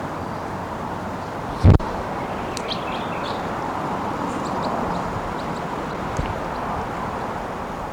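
crossbill calling

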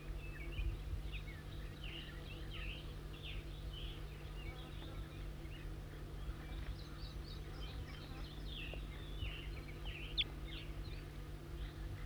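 wild bird calling

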